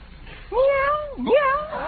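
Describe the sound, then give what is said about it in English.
Two drawn-out meows follow each other closely, loud, with bending, wavering pitch, apparently a human voice imitating a cat. “Meow, meow. Oh, that darn cat.”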